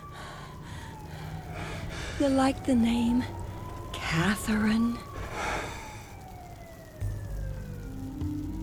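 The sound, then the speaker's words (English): A voice imitating a police siren: a long, steady wailing tone slowly sliding downward in pitch continues underneath a short stretch of spoken conversation. “It's you making the sounds.”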